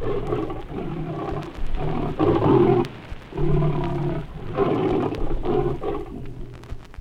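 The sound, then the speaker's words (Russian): A lion vocalizes in a series of deep, rumbling growls and roars at the end of an unexpected encounter with a Grévy's zebra, each lasting about a second with brief pauses between, loud with no speech. “Так называется звуковой сигнал, производимый львом в финале этой встречи.”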